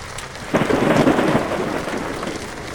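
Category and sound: nature, rain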